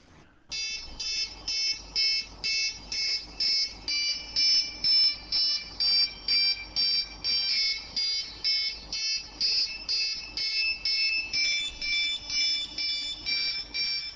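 About half a dozen cell phones ring at once in an early rehearsal test of a musical piece. Their bright electronic tones overlap in a steady, rapidly pulsing chorus of beeps at shifting pitches, loud and continuous with no voices.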